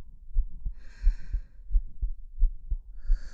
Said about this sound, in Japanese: ほら、私の胸に頭をうずめて、そして、耳を当てて。聞こえるかな？私の心臓の音。